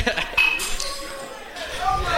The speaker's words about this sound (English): I hope the listeners heard that glass broke.